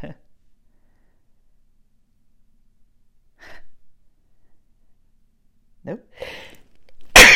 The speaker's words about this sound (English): I'm going to sneeze here.